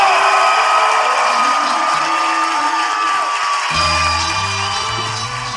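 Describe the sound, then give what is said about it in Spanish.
A large live audience in Monterrey, Mexico applauds and cheers loudly and continuously to welcome Ricardo and Jorge of Hablando Huevadas, dense clapping with whoops and shouts blending into a steady roar; a low musical tone swells in partway through beneath the noise. “Damas y caballeros, por primera vez en México, por primera vez en Monterrey, quiero que reciban con un fuerte aplauso a Ricardo y Jorge, ¡Hablando Huevadas!”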